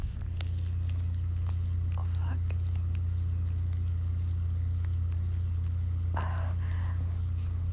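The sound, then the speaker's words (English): Soft, wet rubbing of two fingers circling a clitoris, with faint squishy clicks repeating unevenly over a steady low buzzing hum while a vibrating sex toy is in use, and a voice briefly exclaims near the end. “While I have that toy sitting and vibrating in me, I'm just rubbing my two fingers in a circle around my clit. You wanna hear it?”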